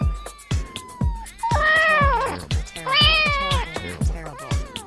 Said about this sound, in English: It's hard to see at first, but a close look reveals Mittens, the cat, stuck in a tree about 70 feet up.